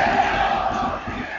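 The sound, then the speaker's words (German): A large stadium crowd roars and cheers in a steady, dense wash of voices that fills the whole moment, loud and sustained without any break or single standout shout, at a football match between WSV and Offenbach as WSV attacks. “Und sie hören die Kulisse.”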